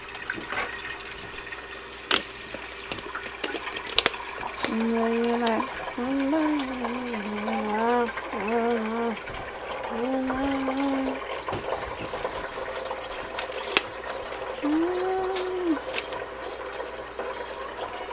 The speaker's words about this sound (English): Add 1/2 inches of water. Along with 1 teaspoon of salt into a pot with a lid. Bring water to a boil.